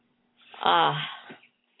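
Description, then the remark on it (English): A single deep, audible breath, drawn in and let out as a slow, slightly voiced sigh, moderately loud, lasting about a second with no talking, taken during a guided deep breathing exercise. “Another nice deep breath in.”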